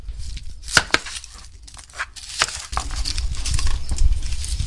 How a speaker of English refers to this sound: Look how quick you're doing this. Thank you. A little bit grinding the onions, chopping it up this way. It doesn't come big chunks in the dough.